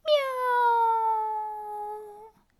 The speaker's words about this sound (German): Die gefleckte Katze öffnet ihr Maul. Miau! Und noch einmal.